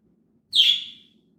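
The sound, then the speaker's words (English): A single loud, shrill chirp from a pet bird, Hendrix, a bright high call that fades quickly, with faint low background noise underneath and no one speaking. “Yeah, our birds want to ruin our podcast.”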